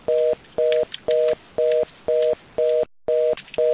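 A steady run of short, identical electronic beeps repeats in even pulses about twice a second over a phone line, loud and clear with a faint hiss between tones and no talking.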